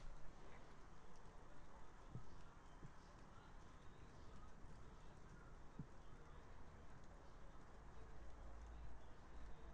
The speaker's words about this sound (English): Few of our local stupid pigeons, which we hate, seem to always have their beak down our bloody chimney, singing to us.